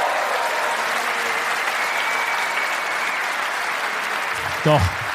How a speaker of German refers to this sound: Applaus für meine Familie! Ja, dicker Applaus. Applaus.